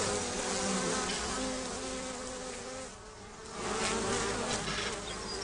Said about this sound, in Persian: زنبورها میان بیرون، به سمت پتومت حمله میکنن و اونا با عجله توی خونه میرن. زنبورها جلوی در خونه میچرخن.